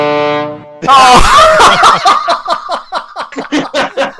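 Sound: foghorn blast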